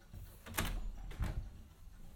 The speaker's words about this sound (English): I've walked into the upstairs bathroom, and no, I'm not going to flush the toilet. I was just going to shut this door and be a little quiet for a moment so you can hear the noise floor of this device.